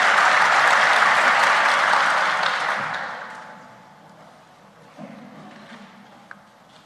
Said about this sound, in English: If my voice is not getting weaker, then your applause should also not be getting weaker.